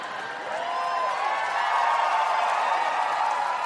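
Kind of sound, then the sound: crowd, audience cheering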